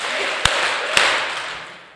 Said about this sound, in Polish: Aleluja. Aleluja. Trzy oklaski dla Jezusa.